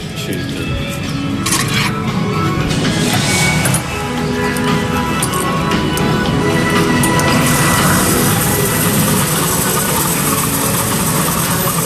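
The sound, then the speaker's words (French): A car engine idles steadily at an Avia petrol station while fuel is taken, a continuous low rumble with a faint mechanical whine and hiss running through it, unbroken for the whole stretch and with no voices. “Donc là on prend l'essence chez Avia.”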